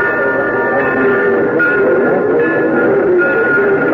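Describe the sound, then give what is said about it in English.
The noon train rolls into a station, its loud, continuous rumble layered with sustained high metallic squealing tones, with no voices. “He came in on the noon train the following day.”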